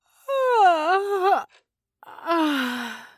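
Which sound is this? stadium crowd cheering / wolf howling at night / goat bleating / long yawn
long yawn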